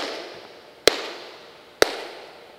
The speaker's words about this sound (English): He's showing me how the Meyer system works. I'm going to clap 3 times. You'll hear the echo that's been created by the sound system.